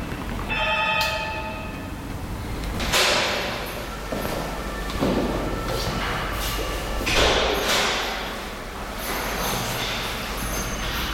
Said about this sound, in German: Dafür sind jetzt Schritte zu hören. Die kommen von oben und sie kommen näher.